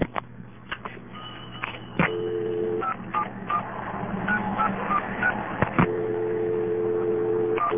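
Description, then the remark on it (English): A telephone ringback test line carries a run of short touch-tone dialing beeps for the digits 1 to 10 at irregular intervals, heard over a steady hum and a continuous touch-tone dial tone that goes away for a couple of seconds with the beeps and returns. “dial the ringback number here and get the touch tone dial test”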